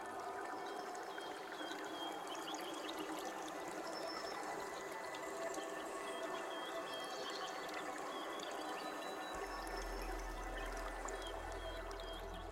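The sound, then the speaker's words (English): Water flows steadily through an underground sewer channel beneath a hill, carrying the water toward the valley, a continuous dense rush with small trickles and gurgles throughout. It stays at an even level, and a low droning rumble joins near the end. “Beneath us, a sewer channels the water toward the valley without harming the hill.”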